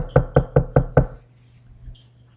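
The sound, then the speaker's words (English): Five quick, evenly spaced knocks on a wooden door, firm, followed by a faint lingering tone and then quiet. “And in the middle of the thing, they end up going into a house, Peter's house, and somebody knocks on the door.”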